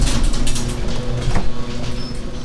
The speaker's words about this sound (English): Close the garage door first.